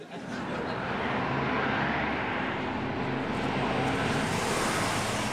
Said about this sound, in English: So that sounds like lorries on the inside lane travelling southwards.